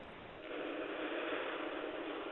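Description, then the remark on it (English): A phone caller's breathy snuffling and sighing comes through a thin, telephone-filtered line, a steady hissing rush of air that swells after a brief quieter start and holds for a couple of seconds, with no speech. “You're sighing and you're snuffling.”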